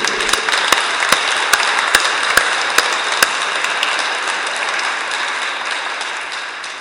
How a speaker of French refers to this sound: Et frères et sœurs, il est ressuscité. Laissons éclater notre joie. Applaudissons le Christ ressuscité.